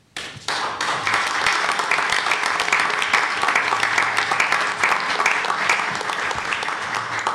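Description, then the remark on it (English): People at a board of trustees meeting break into steady applause after a motion carries, starting abruptly and continuing at an even, full level, dense overlapping claps without any voices standing out. “I noticed since you weren't applauding, it was either you or you were upset.”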